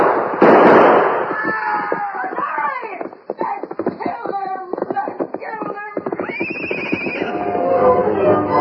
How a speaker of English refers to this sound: He's glad to go anywhere if it's away from that shooting.